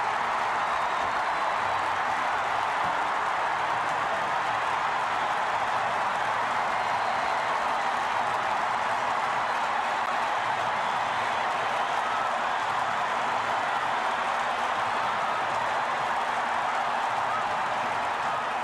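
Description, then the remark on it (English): A huge stadium crowd roars and cheers in one loud, unbroken wash of noise after Ron Say's grand slam off Steve Carlton in the seventh inning of game one of the 1977 National League Championship Series, Dodgers against Phillies, holding steady with no one talking over it. “Gotta love how Vin always let the crowd narrate those scenes after the huge moments like Ron Say's Grand Slam seventh inning game one of the 1977 National League Championship Series.”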